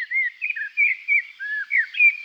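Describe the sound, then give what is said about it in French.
A small grey bird following a person along a path repeatedly gives thin, high-pitched calls in quick succession, short chirps and brief whistled notes, with no other sounds around them. “Il ne cessait de la suivre dans le sentier en poussant son mince cri aigu.”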